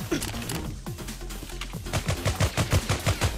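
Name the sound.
video game gunfire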